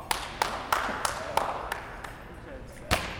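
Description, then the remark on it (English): Students practicing goalball clap to let teammates know where to pass the ball: sharp, single hand claps ring out about eight times, coming quickly and evenly at first, then more sparsely, with a faint murmur of voices underneath. “As students practiced this skill, they clapped to let their teammates know where to pass the ball.”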